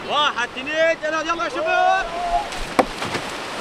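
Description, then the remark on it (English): Huge ocean waves break and wash onto a sunny white sand beach at the Gaza Surf Club in Gaza, with surfers in the water, in a steady, breathy roar, with a sharp crash near the end. High, wailing voices ring out over the surf during the first half. “Miles of white sand beaches, sunshine, huge waves, and of course, surfers.”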